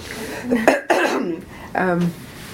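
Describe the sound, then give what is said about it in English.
A person coughs, a couple of harsh, rough bursts in quick succession, followed by a short voiced throaty sound. No clear speech. “Do you want to stop it again so I cough?”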